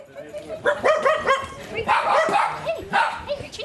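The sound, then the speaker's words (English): About six dogs bark and yip in quick, overlapping bursts, with some higher whiny yelps mixed in, in the airport waiting lounge of a pet charter flight at Teterboro, New Jersey, with faint background chatter. “So we're in the waiting area in the lounge, and there's about six dogs so far. Some of them slightly more excitable than others.”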